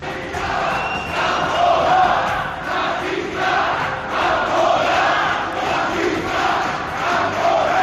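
A hostile crowd in Rentería, Gipuzkoa, in the Basque Country, shouts insults and threats at the arriving Ciudadanos election campaign caravan, a dense, continuous roar of many raised voices swelling and easing in loud waves, with no single speaker standing out.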